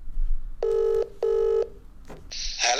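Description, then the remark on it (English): A phone line rings out with two long, steady ringback tones separated by a short gap, followed by a burst of crackling line noise as the call connects. No one speaks. “let's get motoring journalist David Tillier on the phone”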